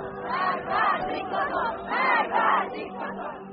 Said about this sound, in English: Others are speaking out against the government, specifically yelling death to the dictator, which is a reference to the supreme leader.